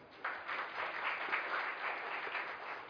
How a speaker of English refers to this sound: Let us welcome Didi with a big applause.